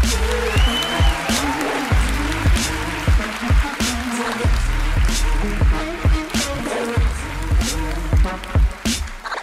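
Audience applause welcoming a co-host, a dense, steady clatter of many hands clapping at once, with scattered voices rising underneath it for several seconds.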